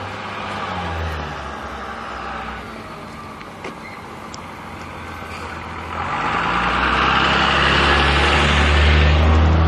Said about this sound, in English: School bus. I usually see a school bus on the street.